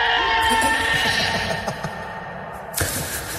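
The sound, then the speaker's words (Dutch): A goat bleats loudly as it comes running in a panic out of the bushes, a long wavering, quavering cry that breaks into shaky pulses, then a second harsh bleat starts near the end. “Maar ineens, uit de bosjes, horen ze achter zich een geit die komt aanrennen.”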